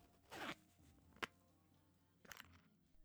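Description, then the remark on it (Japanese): A zipper on someone's clothing is pulled down in a few short, quiet bursts: a longer rasping zip, a sharp click, then another brief zip, with no talking. “これジッパー下ろしてくんない？”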